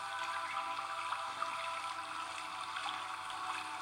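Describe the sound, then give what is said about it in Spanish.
Steady, soft patter of rain landing on a calm river, forming small circles on the water, a continuous hiss with faint scattered drips and light splashes, even in level, with no voices. “Seguimos caminando, escuchando la vida que hay aquí y observando los pequeños círculos que forma la lluvia al conectar con el río.”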